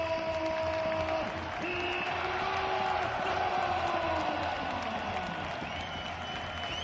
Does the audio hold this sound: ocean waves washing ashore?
no